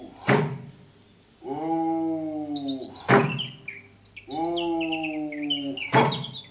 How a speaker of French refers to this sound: Elle s'arrêta un instant pour prêter l'oreille et fut réconfortée d'entendre le chant des oiseaux